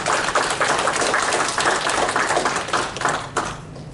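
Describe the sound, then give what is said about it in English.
A crowd applauds with dense, steady clapping that keeps up a loose rhythmic patter for several seconds, then thins and fades out at the end. No one speaks. “I think we should stop right now and give our moms a clap for all they do in the home, as well as many of you who are working outside.”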